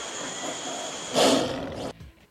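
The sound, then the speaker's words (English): A single loud lion roar bursts out midway, rough and full-throated, lasting under a second before cutting off abruptly, over a steady background hum with no one talking. “random lion roar.”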